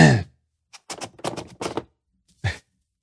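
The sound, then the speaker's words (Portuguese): A nose being blown in a quick run of short, noisy bursts, with a brief voiced sound at the start and one last puff after a pause. “A equipe aqui, que tá, quem está ouvindo com fone de ouvido, está reclamando dos meus... do barulho assoando no nariz.”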